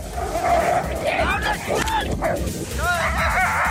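A pack of sled dogs barks and yips excitedly in a dense, overlapping chorus, with high whining yelps rising above steady outdoor rumble, loud throughout, as six dog sleds carrying an expedition's equipment set off across Arctic ice.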